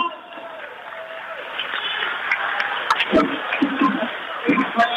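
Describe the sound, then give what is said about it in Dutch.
An audience breaks into steady applause, a dense wash of many hands clapping with a few sharper claps standing out, and crowd murmur mixed in throughout. “Dames en heren, applaus voor de mensen met de rust.”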